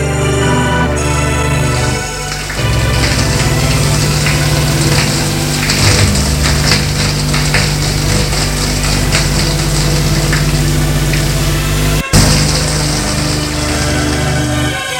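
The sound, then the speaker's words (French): A shower runs with a loud, steady hiss of spraying water as a man showers at his home, starting after a brief lower hum and pausing for an instant near the end, a low droning tone underneath. “Arrivé chez lui, il prend une douche.”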